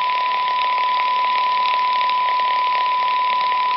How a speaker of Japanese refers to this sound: ノイズオン。ノイズブランカーオン。